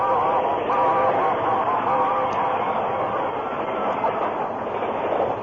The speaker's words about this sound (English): The train raced by, enveloping the Lone Ranger, Tonto, and the unconscious man in a cloud of steam.